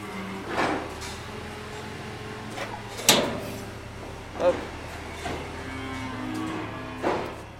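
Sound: cows mooing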